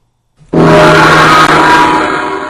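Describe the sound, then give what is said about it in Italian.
A single loud gong strike bursts in abruptly and rings on with a dense, shimmering wash of overtones, staying powerful and fading only slightly over a couple of seconds. No one speaks. “Ok, il gong è stato veramente troppo potente”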